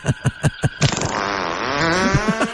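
A few quick sputtering bursts lead into a long, buzzy fart whose pitch wobbles up and down, loud and close with no talking.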